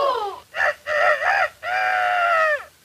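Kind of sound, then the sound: bird, rooster crowing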